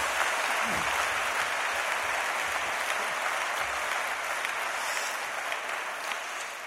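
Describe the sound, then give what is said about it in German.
Steady applause from an audience at the Christusbund welcoming a guest, dense clapping sustained at an even level throughout, sounding like many people clapping together without any voices on top. “Jetzt dürfen wir mal richtig klatschen.”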